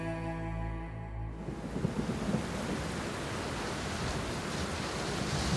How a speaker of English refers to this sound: February 21st, 1916. A week of rain, wind, and heavy fog along the Western Front finally breaks, and for a moment, there is silence in the hills north of Verdun.